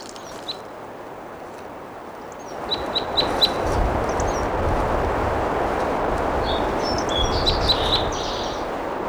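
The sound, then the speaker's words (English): A wild crossbill perched in a ponderosa pine above a camp sings bright, high chirps in quick short bursts, including a run of four evenly spaced notes, over a steady rushing hiss of wind or water that swells partway through. “It's been a wild cross bill here, recorded in song on the end of 86 side B.”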